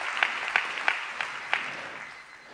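An audience applauds, a steady wash of many hands clapping with several sharper, louder claps standing out near the start before the applause gradually thins and fades.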